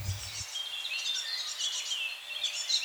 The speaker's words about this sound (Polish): To młode sikory bogatki. Tak kilka dni po wylocie z gniazda i te głosy dorosłego, ja się oddalę, bo trochę jest niepokój, wyleciały z gniazda i uczą się życia.